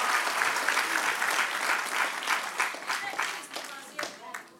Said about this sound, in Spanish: Dale otro aplauso al que reina.